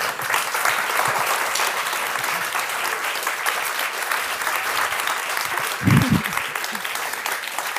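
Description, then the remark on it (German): Sustained audience applause at the end of a Talk im Turm discussion on dangerous germs and global health, a dense, steady wash of many hands clapping at an even loudness throughout, with a brief low thump or murmur near the end. “Ihnen danke ich fürs Klatschen und für Ihre Aufmerksamkeit.”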